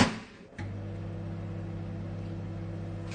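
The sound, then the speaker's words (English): After a brief hush, a microwave oven with a crisp packet inside starts up and settles into a steady electrical hum with a low droning buzz, running evenly to the end without any talking. “if you'd like to set the microwave going.”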